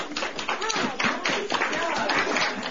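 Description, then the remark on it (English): An audience of classmates and community members, including staff of Ketchikan's local theater, bursts into sustained, dense applause mixed with whoops and shouting voices, loud and steady for the full few seconds, after students perform their plays in a theater project in Ketchikan. “They received a rowdy chorus of applause.”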